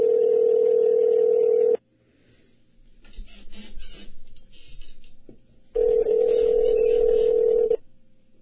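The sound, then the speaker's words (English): Two long electronic ringback tones heard over a phone line on an outgoing call, each lasting nearly two seconds, separated by a pause filled with faint crackling line noise. “Let me see if he answers.”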